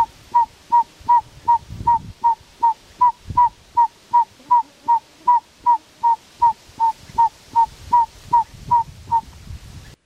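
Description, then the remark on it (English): A northern saw-whet owl's territorial call: a long, steady series of short, clear whistled toots on one mid pitch, about two or three per second, loud against faint background noise. “But to me, the short, highly regularly repeated note of this owl's more common territorial call sounds most like a truck in reverse, sometimes with a ventriloquial effect.”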